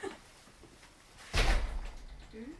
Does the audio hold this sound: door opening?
yes